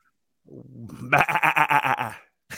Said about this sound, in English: Baby goat. A little reminder.